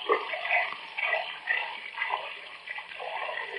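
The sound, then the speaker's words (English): Tap water runs steadily into a glass in a small kitchen at 11:45 for a drink of cold water, a bright, hissing pour with a slightly bubbling, pulsing texture, heard alone without any talking. “I better be getting out of here after I get a drink.”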